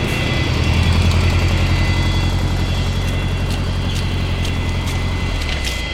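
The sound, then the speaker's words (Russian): A car that met the passengers at the aircraft stairs after landing at an airport hums steadily and fairly loudly beside idling aircraft noise, in thick fog, a continuous low rumble with faint high whine that eases slightly at the very end; no one speaks. “У трапа нас встречает машина.”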